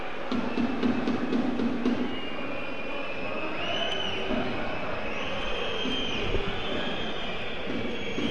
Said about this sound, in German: Und die Zuschauer pfeifen also nicht ob der Arminia, sondern sobald Vollert den Ball an den Füßen oder in den Händen hat, wird sofort gepfiffen